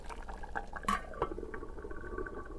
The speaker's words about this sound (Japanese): ああ、鍋吹き出しそうになってる。